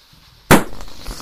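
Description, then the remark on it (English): A single sharp, loud pop bursts out after a quiet moment, a balloon bursting, followed by a brief fading rustle. “Too much, it popped.”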